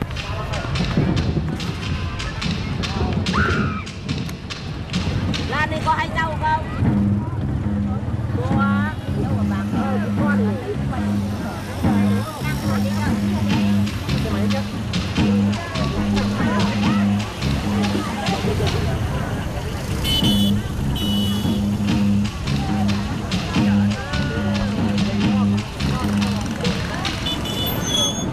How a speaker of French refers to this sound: Ça m'évoque effectivement le grouillement qui existe réellement à Hanoï, que je trouve particulièrement peu agréable.